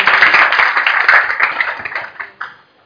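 A burst of applause from a small group, dense and steady clapping for about two seconds, then thinning out into a few scattered claps before stopping.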